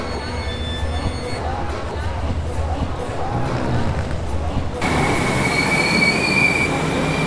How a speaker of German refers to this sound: Ganz schön laut hier, oder? Genau, jetzt kann es sich jeder denken. Am Bahnhof, besser gesagt am Hauptbahnhof in Nürnberg. Hier ist wirklich viel los.